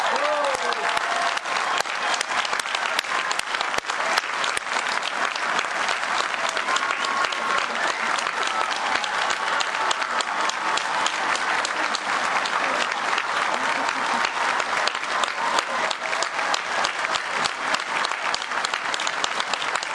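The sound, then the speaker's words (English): A crowd applauds new citizens after their oath of allegiance, clapping steadily and loudly for the full stretch, a dense, even roar of many hands with no pauses, and a faint voice or cheer briefly rising at the start. “Well, let's have a round of applause for our new citizens.”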